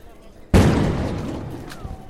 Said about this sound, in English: Going back to the car, there's some gunfire very close to us here.